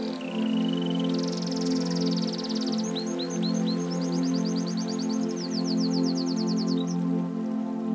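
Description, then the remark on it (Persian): Water of a stream flows in a steady, continuous rush throughout, while small birds chirp and trill in quick repeated phrases above it. No one speaks. “به صدای آب گوش کن.”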